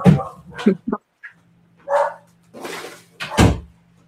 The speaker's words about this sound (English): sorry, let me close my door. My dog's going crazy.